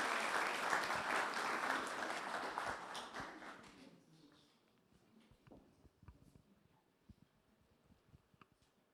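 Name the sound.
audience applause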